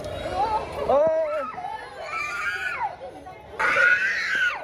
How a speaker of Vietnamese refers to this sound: Tiếng khóc vang vọng khắp ngôi trường trong những ngày đầu tựu trường.